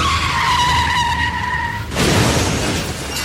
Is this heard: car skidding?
yes